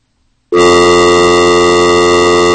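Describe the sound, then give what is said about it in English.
A telephone dial tone, fed from a phone line into a mixing board, cuts in abruptly after a brief silence, then holds as a loud, steady, buzzy drone at one unchanging pitch until the end, with no talking. “So we can bring the dial tone into the board. We do have dial tone into the board.”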